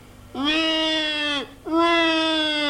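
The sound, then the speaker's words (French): A baby in a stroller in a restaurant dining room, woken by a noisy group, cries in two long, loud wails, each sustained for about a second with a brief breath between them, and no talking. “Oh, ben vous avez réveillé mon bébé, dit une cliente qui est là avec son bébé dans une poussette.”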